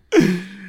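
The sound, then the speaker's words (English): A single sneeze bursts out suddenly, a sharp breathy blast that trails into a short voiced tail and fades. No one talks over it. “Oh, bless you.”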